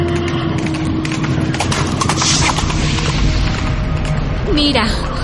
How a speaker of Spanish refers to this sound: ¿No oyes? ¿No escuchas a lo lejos un galope de caballos? Sí, los escucho. ¿Pero qué son? ¿Quiénes son? Son jinetes.